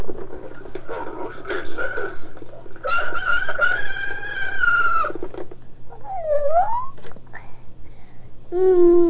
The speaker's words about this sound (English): Listen, let you pull it a couple of times, and then Daddy wants you to pull it again. What do you want to hear? Rooster. Rooster? Want to hear do the rooster? Okay, pull it. Pull the ring. Find the ring and pull it all the way out.